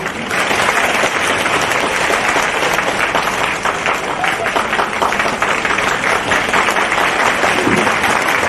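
Sustained applause from an audience, a dense, steady wash of many hands clapping at an even, loud level for the whole stretch without letting up.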